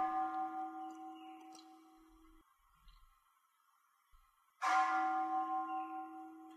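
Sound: bell ringing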